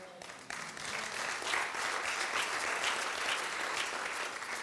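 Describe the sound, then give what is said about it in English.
An audience breaks into applause, a dense, steady patter of many hands clapping that holds at an even loudness for several seconds after a brief quieter start. “I find it interesting when I call myself a sinner, it's the first time you clapped.”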